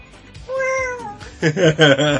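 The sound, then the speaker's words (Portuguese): A person mimics a cat, giving one drawn-out meow followed by a few louder, quicker meows, all clear with no other talking. “Como é que é o gato?”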